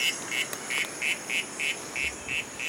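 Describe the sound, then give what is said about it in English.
A recording of an Ufaga Lemani frog call played in the jungle: about nine short, duck-like quacking notes in a steady, quick rhythm, fairly clear over a faint, continuous hiss of background insects. “So we try playing a recording of a real Ufaga Lemani.”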